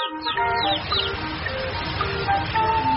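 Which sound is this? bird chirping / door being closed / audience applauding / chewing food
bird chirping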